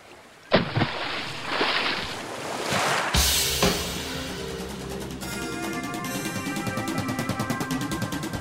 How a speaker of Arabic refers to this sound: كان الوقت منتصف الليل إذ دخل غسان في البحر وبدأ يسبح نحو سفينة اللصوص، وبعد ربع ساعة دنا منها